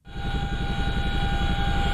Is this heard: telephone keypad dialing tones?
no